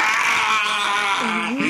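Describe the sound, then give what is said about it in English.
A voice imitates a dying robot's scream, like a dying Dalek: a loud, strained, buzzy screech held for over a second, its pitch wobbling and sliding downward at the end. “It starts screaming. It sounds like a dying Dalek.”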